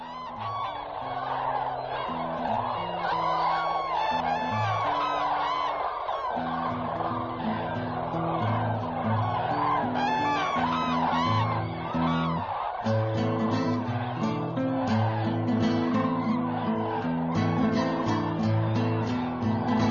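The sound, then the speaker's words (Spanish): A large flock of common cranes calls continuously in the marshes of the Biebrza valley before their long migration, many overlapping trumpeting and bugling cries forming a loud, dense chorus, with a steady low droning background underneath throughout. “Su escandaloso y alegre grito de llamada volverá a los pantanos del Biebsa en la próxima primavera.”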